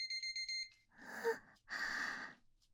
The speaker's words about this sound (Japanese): タイマー鳴っちゃいました。射精してないのに鳴っちゃいました。